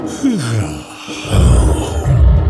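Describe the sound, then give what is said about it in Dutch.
A stretching lion's lazy yawn: a drawn-out groan sliding down in pitch, then a louder, low rumbling exhale that swells and lingers, alone without talk. “De imponerende muil van de zich uitrekkende leeuw opende zich wijd en sprak na een onverschillige geeuw.”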